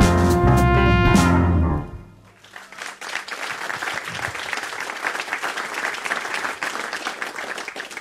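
In the Marconi studio, at a celebration of Jean Kluger's 85th birthday, the band's final chord rings out for about two seconds, then the audience breaks into steady, sustained applause of many clapping hands that continues to the end.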